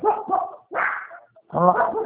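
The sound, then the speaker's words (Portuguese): A dog barks three times in quick succession, each bark short and fairly loud with a brief pause between them, with no voices over it. “Ela tá latindo ali, ó.”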